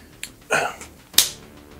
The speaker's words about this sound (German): Ja, ich darf einfach nicht schnippen.